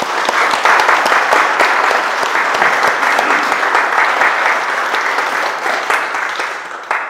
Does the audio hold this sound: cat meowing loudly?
no